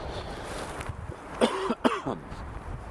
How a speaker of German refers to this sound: Ja, wenn ich weit weg vom Mikrofon huste, dann ist das nicht so ouch, wie wenn ich mitten ins Mikro huste.